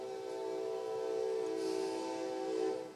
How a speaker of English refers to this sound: Thank you for that whistle.